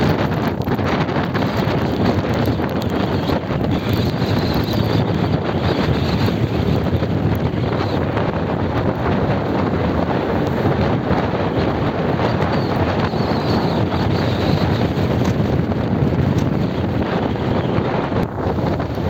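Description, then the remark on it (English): Loud, continuous roar of powerful ocean waves surging as Hurricane Nicole approaches, with light rain beginning and heavy wind buffeting the microphone, a dense wash of surging sea noise that never lets up, with no voices. “Look at how powerful the ocean is. It's also beginning to rain a little bit. Look at it surge.”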